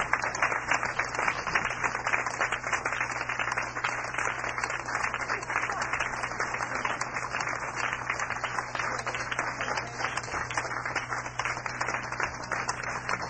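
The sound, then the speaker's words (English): Sustained applause from an audience at the Blue Note in New York for a musician and his band, a dense crackle of many hands clapping steadily for over thirteen seconds with even loudness throughout, alongside a low steady hum. “One more time, let's hear it for …, …, …, ….”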